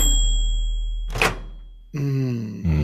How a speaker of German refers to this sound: Geil. Ah, jetzt verstehe ich es erst. Das war eine Mikrowelle.